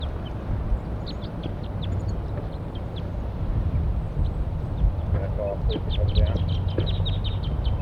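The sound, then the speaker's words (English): Wild birds in the top of a pine tree above a net call in scattered bursts of short, high-pitched chirps, with a bird labelled 4-3 responding, growing busier toward the end, with a few lower notes mixed in, all over a steady low rumbling background. “Wild birds and 4-3 responds.”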